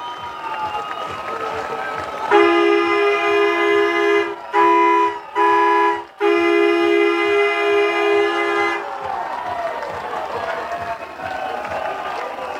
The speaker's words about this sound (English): It's a grand slam for Max McGuire and an 8-run bottom of the eighth inning. It is 14-6 Wisconsin Rapids. You gotta be kidding me. Listen to this crowd.